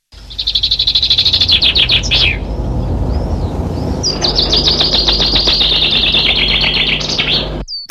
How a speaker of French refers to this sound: En ce printemps précoce, qui nous fait craindre les gelées sur les floraisons des arbres fruitiers, les oiseaux rivalisent de vocalises. Parmi ces chants se distingue celui de la mésange charbonnière, un chant rythmé et cadencé.